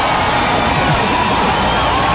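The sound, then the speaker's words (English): A dense, steady roar of a parade crowd cheering, with overlapping shouts and whoops blending into a continuous wash of noise that holds at an even loudness throughout. “Listen to that crowd, though.”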